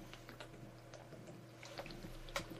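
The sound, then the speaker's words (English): Quiet bubbling and gurgling as a person drinks Gatorade, with scattered small liquid pops and clicks over about three seconds and no talking. “Gatorade. Oh, could you hear that? Good bubbling.”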